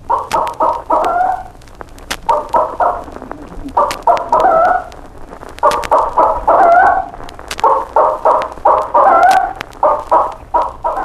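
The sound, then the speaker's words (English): A chicken repeats a loud, agitated ground-predator warning call in rhythmic bursts of sharp clucks, rising into harsh cackles, with no talking. “One of these warnings signifies a ground predator, such as an approaching dog or man.”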